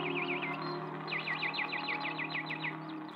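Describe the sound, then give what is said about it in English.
Birds in the walled garden outside Snow White's room: one chirps in a quick, steady run of a dozen or so bright, swooping notes, set against a soft, sustained low hum in the background. “But in the walled garden outside Snow White's room was a wishing well, and there each day she would walk with her friends, the birds, who came from far away to listen to her song.”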